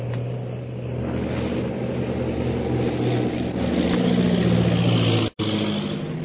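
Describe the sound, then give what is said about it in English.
A propeller airplane engine drones steadily and loudly as the plane banks to come in from the other side for a landing, its low throbbing hum shifting slightly in pitch as the plane turns, with a sudden brief dropout near the end. “I'll bank the plane and come in from the other side.”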